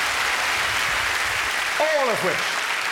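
A crowd at a show applauds a performer with steady, dense clapping that holds loud throughout, while a brief gliding whoop or cheer rises and falls over the applause near the end.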